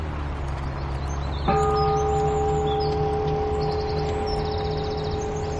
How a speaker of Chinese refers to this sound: 听到这些清越嘹亮的钟声，心中真是一片祥和啊！